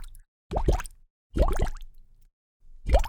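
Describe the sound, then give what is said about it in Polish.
Three clear water drop plops fall one after another at uneven intervals, each with a hollow, rising bloop and brief resonance, separated by silence. “Tak, oczywiście, chodzi o wodę.”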